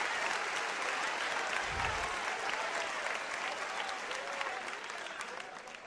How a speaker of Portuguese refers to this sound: Sirva a ele com aleluia. Sirva a ele com aplausos.